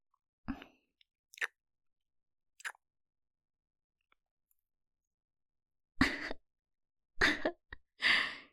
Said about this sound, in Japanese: キスしちゃったね。